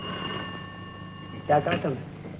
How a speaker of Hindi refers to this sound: Hello साहब, आसामी मालदार है, कहिए तो अब जापान से टेलीफोन दे दूं? लीजिए, जापान से ट्रंक कॉल आया।